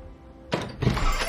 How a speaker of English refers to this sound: strides across the shop, stops to take a deep breath, then opens the front door.